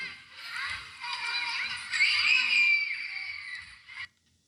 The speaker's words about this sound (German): Kleinkinder spielen zufrieden am sonnigen Tag.